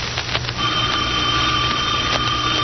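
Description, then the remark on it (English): A telephone rings with a steady, high electronic tone that starts after a brief moment and holds to the end, over a constant low rumbling hum. No one speaks. “At the phone. I won't answer it.”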